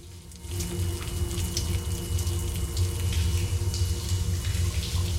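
Water from a shower runs in a steady, continuous hiss, close and fairly loud, with a low rumbling undertone and small splashes throughout; no voices.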